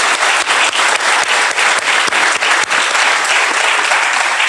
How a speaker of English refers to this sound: Let's give Jim a hand for being here as well.